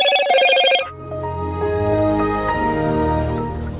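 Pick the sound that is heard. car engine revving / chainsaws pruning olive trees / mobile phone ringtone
mobile phone ringtone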